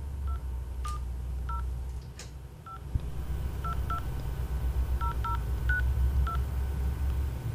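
A phone number is dialed as a series of short touch-tone beeps, about a dozen brief tones spaced irregularly, clear over a low background hum, with no talking.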